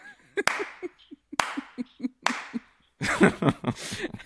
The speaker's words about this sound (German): Ja, klatschen!